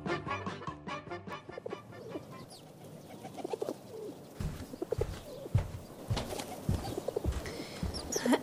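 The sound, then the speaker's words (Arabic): Pigeons coo softly in a low, murmuring rhythm, mixed with light fluttering and shuffling sounds, with no one speaking; a pigeon is behind a window. “انظر يا أبي، انظر هناك طير خلف النافذة. اسمه هذا الطائر حمامة.”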